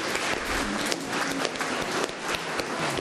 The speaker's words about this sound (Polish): Wielkie brawa dla naszych artystów. Bardzo dziękujemy wam. Kochani, gorące brawa dla nich. Wszystkie dzieci klaszczą.